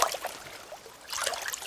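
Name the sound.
small brook trickling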